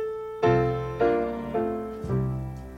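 A recorded song opens with four loud piano chords struck at a steady, unhurried pace, each ringing out and fading before the next. No singing or talk is heard yet.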